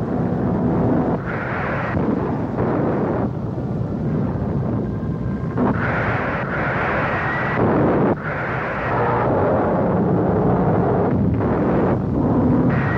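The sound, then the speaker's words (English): Rockets and inflammable jelly bombs explode and an ammunition dump is hit in the battle for Seoul, a continuous loud roar of heavy low rumbling blasts rolling into one another with repeated surges and no pause for the full length. “Another rain of rockets is backed up with inflammable jelly bombs. An ammunition dump is hit.”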